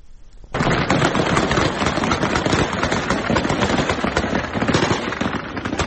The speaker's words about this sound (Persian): کمی پیشتر با ادامه یافتن اعتراضات علیه طالبان و پاکستان در روز سه‌شنبه تصاویر منتشر شده در شبکه‌های اجتماعی از تیراندازی شدید طالبان در پایتخت افغانستان به منظور متفرق کردن تظاهر کنندگان حکایت می‌کند